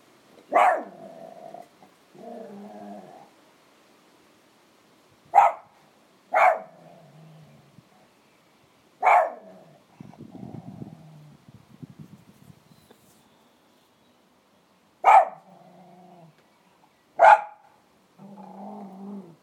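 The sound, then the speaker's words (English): A dog, Toof-Toof, on the other side of a fence gives about six sharp, loud barks at irregular intervals, each trailing into a low, rumbling growl, with a longer stretch of growling midway through. No one speaks. “Dog made on the other side of the fence.”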